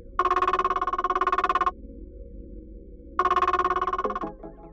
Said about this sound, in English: Then Dad's phone rings.